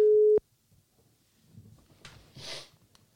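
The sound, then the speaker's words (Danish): A loud, steady electronic phone tone sounds once as a surprise call is placed to someone, then cuts off unanswered. Quiet follows, broken by soft breathy sniffs and rustling. “Så nu skal han fandme ringes op.”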